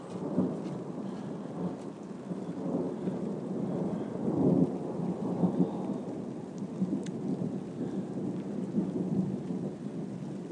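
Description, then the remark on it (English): Low, continuous thunder rumbles through steady rain on a hot, steamy Saturday, swelling louder around the middle before settling back into a rolling background roar. No one speaks. “Hot, steamy, rainy, thundery Saturdays.”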